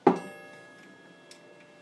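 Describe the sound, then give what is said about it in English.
A pendulum clock, just restarted by setting its pendulum swinging after it had stopped, ticks: a sharp, resonant tick rings out and fades, then a softer click follows about a second later, over a low steady background hum. “I don't know if you can hear it ticking now.”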